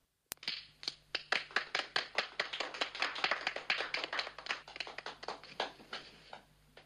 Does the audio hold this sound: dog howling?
no